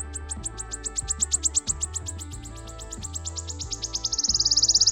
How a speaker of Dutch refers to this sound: Ja, vogelaars zoeken in het vroege voorjaar altijd naar de eerste tjiftjaf. En in mei naar deze vogel, de fluiter.